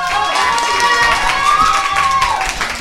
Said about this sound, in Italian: Un applauso!